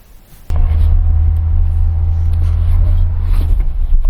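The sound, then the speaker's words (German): A steady, heavy low rumble of an engine heard from inside a car cabin on the drive back to Hamburg starts abruptly and continues loud and constant, with faint tonal hum above it and no talking. “So Leute, zurück in the car, back in the Auto. Jetzt geht's ab wieder zurück nach Hamburg.”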